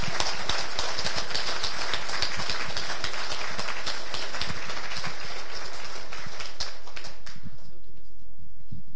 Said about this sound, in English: And so a round of applause to all the people who've been contributing to Samba. Thank you.